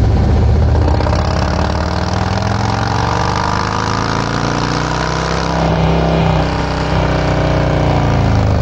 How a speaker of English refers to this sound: I think the exhaust even sounds a little better because the motor can breathe better with more air coming in. Now, let's put it on the dyno and show you what we get.